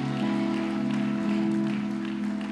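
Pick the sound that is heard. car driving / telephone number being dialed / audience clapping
audience clapping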